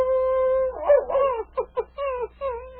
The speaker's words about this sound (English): Well, King, there goes Thunder again, answering the wolves.